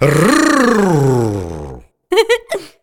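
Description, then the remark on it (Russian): In a classroom, a person loudly imitates an animal's growl, one long, rough, throaty roar sliding down in pitch for nearly two seconds, followed by a short burst of speech. “«Надо рычать». «Я рычу».”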